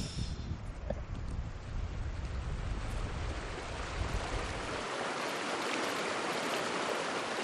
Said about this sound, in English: And there's a lake here. We're like little tiny figurines in this massive mountain range. Nice, quiet. Just hear the noise of the water.